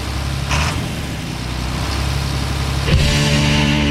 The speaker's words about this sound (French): Fouille-moi c'est quoi, mais ça commence avec un moteur de tracteur.